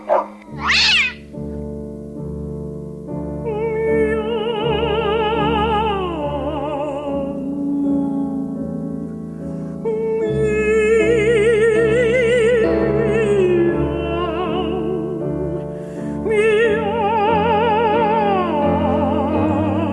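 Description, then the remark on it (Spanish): Two operatic voices, a soprano and a mezzo-soprano, trade and overlap sung meows with wide vibrato, imitating cats in the comic 'Dúo de los Gatos' (Cat Duet) over steady accompaniment; the singing is loud and continuous throughout. “Escuchando Dúo de los Gatos de Robert Lucas Purcell, interpretados por la soprano”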